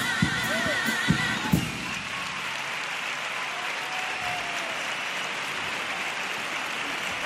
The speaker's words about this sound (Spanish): Segunda letra de Paso Dobles y vuelve a causar, bueno, pues mucho impacto y ese aplauso de todo el respetable. Están cuajando una excelente actuación de momento, ¿eh? Sí, sí, de hecho los aplausos han irrumpido antes del final del Paso Doble.